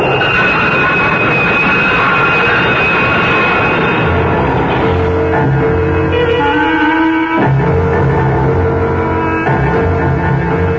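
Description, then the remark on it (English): A train rushes in past a platform in a loud, continuous rumble, with sustained shrill whining tones that shift and bend in pitch partway through. No voices are heard. “Caught off balance, Deke's foot slipped off the edge of the platform, and Deke started to fall helplessly in the path of the onrushing train.”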